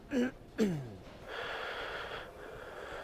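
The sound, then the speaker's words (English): Someone makes an exaggerated heavy-breathing imitation like Darth Vader, doing an impression of Tony Soprano, starting with two sharp voiced gasps, then a long, steady hissing breath, fairly loud, with no talking. “breathing like fucking Darth Vader. Doing an impression of Tony Soprano.”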